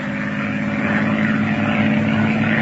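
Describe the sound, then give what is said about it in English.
A propeller airplane engine drones steadily in flight along the coastline of Ireland while climbing to 2,000, a loud, constant low hum with a buzzing harmonic band and a rough, slightly pulsing texture throughout, with no voices. “Fly along the coastline and check my chart. Up we go to 2,000 for a map's eye view.”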